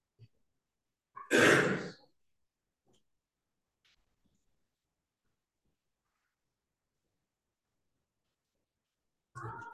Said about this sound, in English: Should I clear my throat meaningfully? You sound like you're sick.